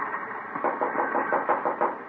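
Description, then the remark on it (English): A steady run of dull knocks on a locked train compartment door, evenly spaced and moderately loud, over a constant background rumble of the moving train. “Locked. Knock.”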